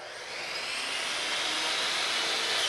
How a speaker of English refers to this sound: About a mile from the former Bud factory, carpenters are sawing wood in what will be the living room of a 3-story row house.